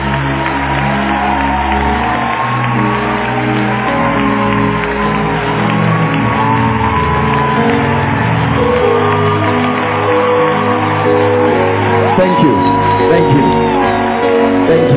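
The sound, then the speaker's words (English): An audience claps and cheers steadily for the whole stretch, celebrating a woman as she is helped down, with shouts and whoops rising over a dense wash of applause and some music underneath. “Keep clapping till they go down.”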